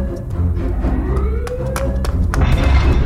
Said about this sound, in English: That's probably why I didn't notice anything, until the sirens started wailing.